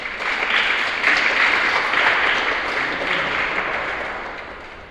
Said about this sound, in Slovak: môžem aj taký potlesk dať trošku, nie?